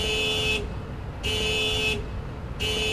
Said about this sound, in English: Outside, a car alarm fills the air with no owner in sight.